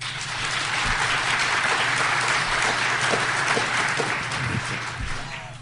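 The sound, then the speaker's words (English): A crowd claps steadily for several seconds, voting that a computer chip item is the fiction, a dense wash of overlapping hand claps at a fairly even, moderate loudness with no voices standing out. “So let's first do the applause. For those of you who think that the computer chip is the fiction, applaud now.”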